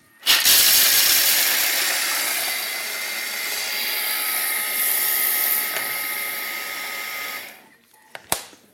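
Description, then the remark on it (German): A blender whirs loudly and steadily for about seven seconds, a rough, rattling grind of 240 grams of dry cashew nuts blended before the water is added, then cuts off, followed by a couple of sharp clicks. “Dass wir nicht so lange mixen, gehen wir hin und tun zuerst die Nüsse trocken mixen, bevor das Wasser dran ist.”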